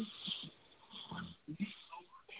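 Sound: heavy breathing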